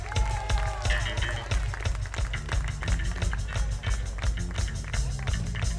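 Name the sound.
audience applause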